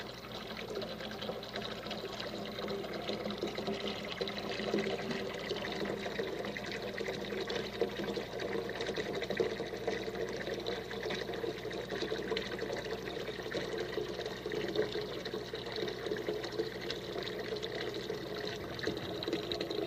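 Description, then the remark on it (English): Water pours steadily into a sink, a continuous splashing rush that stays fairly even throughout, moderately loud, with no voices over it. “Let's float it in the sink.”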